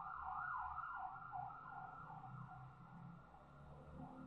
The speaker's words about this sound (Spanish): Hay una ambulancia. Vamos a esperar a que pase.